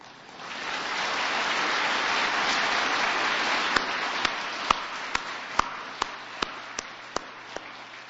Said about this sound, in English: So did you hear and feel the confidence in that applause?